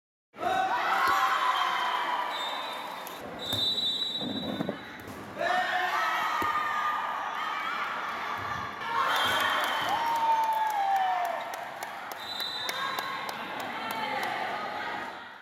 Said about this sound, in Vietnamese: Sân thi đấu tại Trung tâm Văn hóa Thể thao Người Cao Tuổi tỉnh Bắc Giang trở nên sôi động hơn sau mỗi lần đập bóng bởi tiếng reo hò và những tràng pháo tay của các cổ động viên đến cổ vũ cho đội của mình.